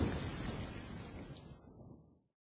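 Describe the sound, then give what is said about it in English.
A loud rumble of thunder over a wash of steady rain, starting strong and fading away after about two seconds. No voices. “Amelia Bedelia's class always got along until it rained.”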